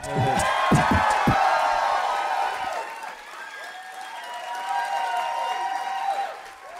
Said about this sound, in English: Somewhere through a pool of horse's blood, Usador can hear your applause and he appreciates it.